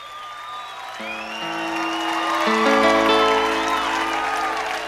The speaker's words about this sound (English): it's a live performance, so here's some applause.